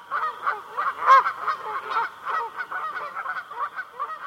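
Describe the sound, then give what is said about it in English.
A flock of migrating Canada geese honks continuously while flying high overhead in V formation in early autumn, many overlapping nasal calls in a busy, irregular chorus, with no voices present. “The migrating Canada geese heard here are returning from nesting in Canada and Alaska.”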